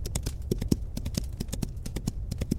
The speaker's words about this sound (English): But amid the chaos, an ethereal white horse appears, and she slowly approaches it. The horse allows her to mount it, and Arya gallops out of the smouldering remains of King's Landing.